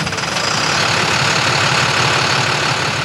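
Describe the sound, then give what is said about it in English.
An old fuel truck's heavy engine idles steadily at a public auction in Berlin, Vermont, on a cold, rainy morning, with a low rhythmic knocking chug under a loud, constant rumble that never changes pace. “Like this old fuel truck”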